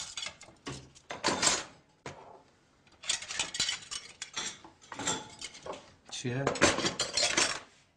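A fork and spoon clink and scrape against a plate in close, busy bursts, with short pauses between flurries of rapid metallic taps, like someone eating steadily at a table.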